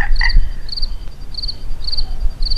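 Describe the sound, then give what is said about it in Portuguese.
Frogs croak at night in short, regularly repeating trilled bursts, steady, with a soft low rumble of background noise and no voices. “você quer dizer que tal ouvir o barulho da noite, né? Dos sapos, dos grilos, da coruja.”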